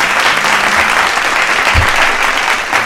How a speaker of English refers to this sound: You know, if we mention Kathy Griffin, they're bound to applaud. That probably it should be deafening.